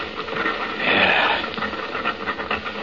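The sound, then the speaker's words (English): An elephant-like animal call rises as a single breathy, rasping blast lasting about half a second, then fades back into a steady hiss of background noise. No one speaks. “Listen to that. It almost does sound like an elephant.”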